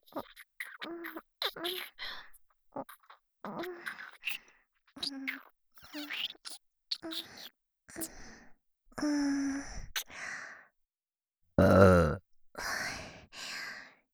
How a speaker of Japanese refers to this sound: ゲップ、こんな感じでいいですか？喜んでもらえて嬉しいです。お兄さんに感謝の気持ちをいっぱい伝えたいんですが、お兄さんには言葉よりもゲップの方がよく伝わりますね。今日は感謝のゲップをたくさんしますので、楽しんでくださいね。